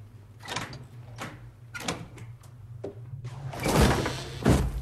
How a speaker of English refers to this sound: The door flies open to reveal a dark tunnel.